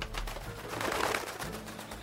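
A pigeon coos softly in low, throaty tones, the murmuring call rolling on steadily for about two seconds with a faint hiss in the background and no one speaking.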